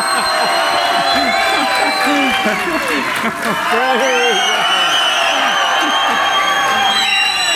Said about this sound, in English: Oh, we got a big crowd here. I thought we wouldn't have.